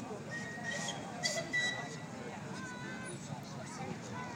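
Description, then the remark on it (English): A person gives a short, sharp whistle to call his mate, cutting briefly through a steady wash of background noise and voices. “His mate just whistled him.”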